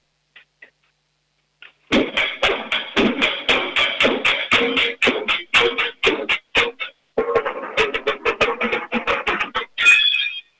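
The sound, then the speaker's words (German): A drum performance: a fast run of sharp, loud hits with ringing overtones, pausing briefly before another quick burst of strikes, ending in a flurry. No one speaks. “Hast du deine Trommeln irgendwo jetzt in der Nähe? Ja. Ja, dann trommel mal was für uns.”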